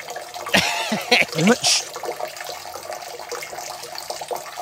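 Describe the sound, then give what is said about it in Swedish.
A steady stream of urine splashes into toilet water from a person urinating while standing, with a continuous trickling hiss. Brief voices or vocal sounds break in near the start, over the pouring. “Det här är fan bra skval. Alltså. Du träffar ju vattnet.”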